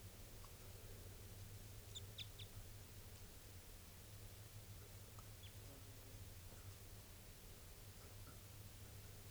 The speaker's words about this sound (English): It's a male. He's coming down. Pointed at the bird. He's looking down. Chitter there.